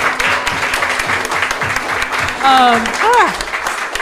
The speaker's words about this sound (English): They give him another round of applause. It's beautiful.